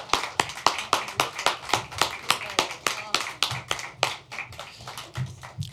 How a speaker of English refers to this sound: And for all of our songwriters today, helped us tell these stories. Round of applause for our songwriters.